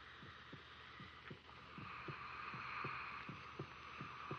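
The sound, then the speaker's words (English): A heartbeat heard through a stethoscope: a fast, regular run of low, muffled thuds, about a dozen in four seconds, over a steady whooshing hiss and hum. “Stethoscope.”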